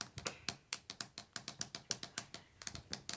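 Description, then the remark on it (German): Rapid plastic clicks and taps from two fineliner pens, about twenty sharp hits in quick, uneven succession, some in quick pairs, as the caps are taken off and put back on or the pens are drummed on the floor. No voices. “Man kann die Deckel ab und wieder drauf machen. Oder man kann auf dem Boden trommeln.”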